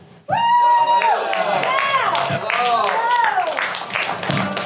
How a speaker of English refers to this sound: Let's give a big round of applause to the real life lovers, everybody.